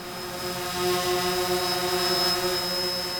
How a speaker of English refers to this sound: What are they? Drones. And utilities are taking advantage of drones to quickly spot trouble spots with their lines.